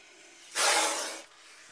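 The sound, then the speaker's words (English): A single sharp snake hiss in the reptile house at London Zoo, a breathy burst lasting under a second that swells quickly and then tapers off, against an otherwise quiet background. “The reptile house appears in the film Harry Potter and the Philosopher's Stone, when Harry talks to a snake.”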